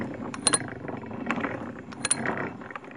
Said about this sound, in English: He was building something called the analytical engine, a giant machine made of gears and wheels.